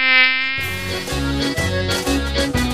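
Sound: mosquito buzzing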